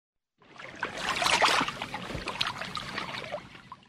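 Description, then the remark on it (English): Three boats moving through water: a steady wash of splashing and sloshing that rises in after a brief silence and continues without pause. No voices are present. “I can see three boats!”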